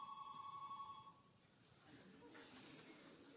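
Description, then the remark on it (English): A telephone rings loudly with a bright electronic tone for about a second, then stops, leaving a noisy, rustling background. “that was really loud. Is it that phone?”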